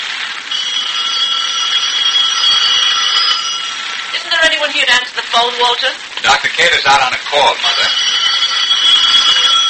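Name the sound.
telephone ringing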